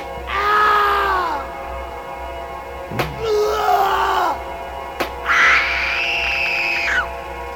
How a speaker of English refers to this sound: Well, I know, and the screams happen at this borderline of pleasure and pain